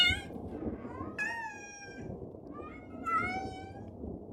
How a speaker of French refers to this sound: Oh, un chat. C'est moi ou ses yeux brillent? Non, non, c'est pas toi, je te confirme. Il a des yeux verts chelous et ils brillent comme des lampes de poche.